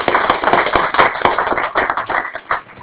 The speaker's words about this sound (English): So let's give a big applause first to you to come to this university, to our campus.